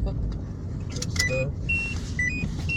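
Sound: car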